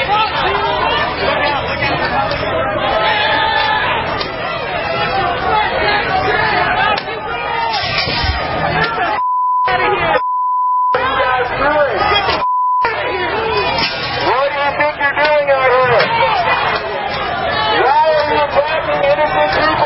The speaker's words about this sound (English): So it's a bunch of weird white dudes screaming F you Nazis attacking the American flag.